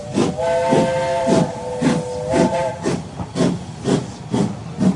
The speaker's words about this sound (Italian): Dopo qualche minuto il treno si muove. I vagoni urtano. La macchina sbuffa, fischia forte e ansante si porta fuori dalla tettoia. E poi via come un lampo.